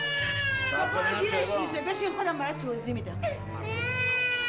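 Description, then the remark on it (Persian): A baby cries loudly, a continuous wailing that rises and falls in strained, high-pitched bursts for several seconds, with a low hum in the background. “این بچه رو آروم کن.”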